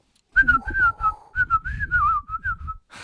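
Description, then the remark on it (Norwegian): Someone whistles a warbling, birdlike tune in imitation of birdsong, a wavering mid-pitched melody in two phrases with a short break between, ending in a brief burst of noise. “Åh, fin fuglesang.”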